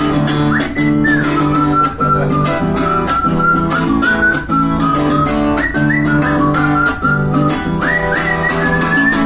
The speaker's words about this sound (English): Whistling solo.